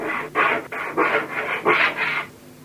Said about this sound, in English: Now you cut the wood with the saw